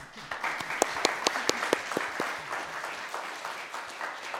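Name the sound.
applause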